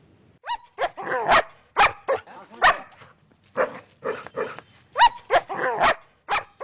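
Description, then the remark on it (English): A dog barks repeatedly and loudly in quick, irregular bursts of sharp, yelping barks with short pauses between them, with no talking. “Primarily, this man was afraid of the dog.”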